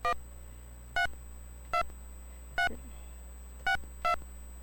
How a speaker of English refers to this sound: I don't know if you can hear the beeping. The phone's beeping.